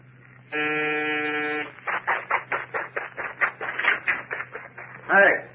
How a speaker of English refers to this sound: And you? You're ringing a murderer's doorbell.